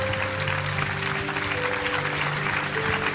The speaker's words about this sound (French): Est-ce qu'on peut applaudir la parole de Dieu ce matin? Est-ce que pour honorer la parole de Dieu ce matin?